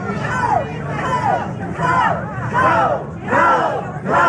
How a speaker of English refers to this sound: You might be able to hear as well, a lot of the protesters here are shouting coal in support of the coal mining job here in southern West Virginia. Yeah, they're shouting, coal, coal, coal.